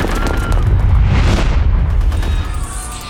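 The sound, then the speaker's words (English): Heavy gunfire mixed with deep booming rumbles, loud and continuous for a few seconds, dense and chaotic like a firefight, with no voices. “Anya took off towards the gunfire.”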